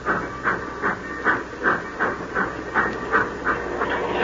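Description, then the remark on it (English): A steam locomotive at the head of a long freight train hisses and chuffs as it pulls away, steady rhythmic puffs of steam about two per second over a continuous hiss, moderately loud, with no voices. “The old boiler up front's got the steam up.”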